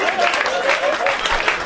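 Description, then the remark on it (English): Steady applause from an audience after a correct answer, Poseidon, in a name-that-movie game. It is a dense, even wash of many hands clapping at once that keeps up without a break for the whole short stretch. “Stop clapping!”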